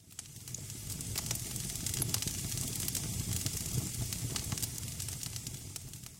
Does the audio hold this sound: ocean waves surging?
no